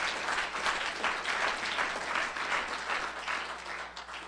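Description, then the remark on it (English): Sustained applause from a church audience celebrating 57 people saved in a service, a dense wash of many hands clapping at once, steady and fairly loud throughout before easing slightly at the end. “Give a big hand clap to that.”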